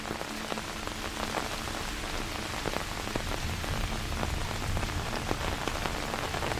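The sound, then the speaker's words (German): Steady rain falls on a hard surface amid swirling fog, a dense continuous patter with scattered sharper drops ticking through it, moderately loud, with no voices. “Hier an diesem magischen Ort zwischen wogendem Nebel und dem Regen hast du mehr als nur eine Zuflucht gefunden.”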